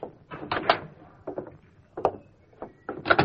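A wooden door leading to the back of a pool room opens with a series of irregular creaks and knocking clatters, moderately loud, coming in uneven bursts with short gaps between them and no voices.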